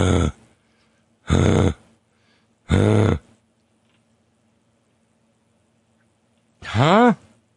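Heavy breathing close to the mic: three loud, breathy gasps about a second and a half apart, a pause, then a final voiced, groaning exhale. No one talks.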